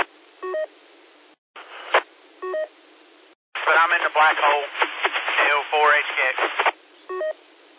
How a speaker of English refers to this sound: CB radio started hissing at me.